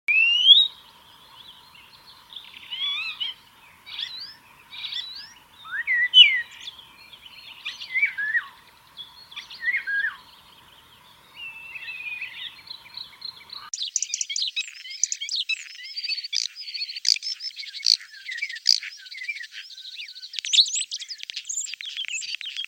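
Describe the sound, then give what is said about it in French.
A starling sings alone, first mimicking an oriole's fluting whistles, then breaking into a busy, continuous warble of rapid chirps, clicks and high buzzy notes, clear. “Vous venez d'écouter un étourneau qui imite un loriot, un autre oiseau, suivi d'un gazouillement typique des étourneaux.”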